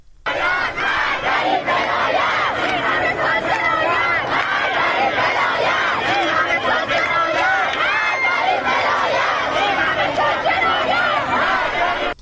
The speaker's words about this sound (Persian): ویدیوهایی منتشر شده که نشون میده معترضان روسری‌های خودشون رو به همراه عکس آیت الله خامنه ای به آتش میکشن و شعار آزادی میدن. ما صدا رو میشنویم از اونجا.